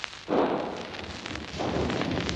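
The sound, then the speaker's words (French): Two heavy blasts of gunfire about a second apart, enemy cannon booms alternating with sharper French carbine shots during the fighting to liberate Paris, in a working-class district. Each trails into a rumbling echo over a constant noisy background, with no talking. “Vous pouvez entendre le canon ennemi et le mousqueton français qui alternent presque sans interruption, mais la confiance et l'enthousiasme ne sont pas du côté des gros calibres.”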